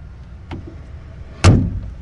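A car door slams shut with a solid thud, preceded by a softer click of the handle or latch, as people leave a hospital by car for a Hosseiniyeh. Then the low hum of the car interior settles in.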